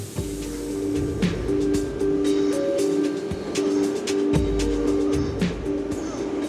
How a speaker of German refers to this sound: Die U-Bahnen fahren weiter.